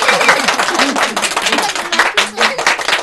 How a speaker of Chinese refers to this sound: 让我们大家鼓掌，向他们表示祝贺。